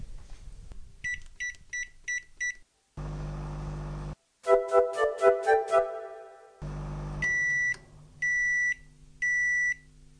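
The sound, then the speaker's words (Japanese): A microwave oven heating a pack of cooked rice at 500 watts for 1 minute 30 seconds gives quick bursts of short electronic beeps, then after a stretch of humming and clattering sounds off three longer, clear beeps as heating finishes. No one speaks. “はい、加熱が終わりましたので、パックご飯を電子レンジから出します。”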